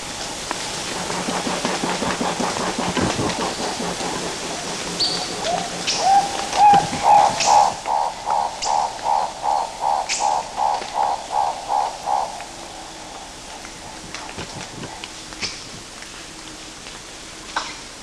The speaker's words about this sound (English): Prior to that, we had black-billed turricos calling in the background.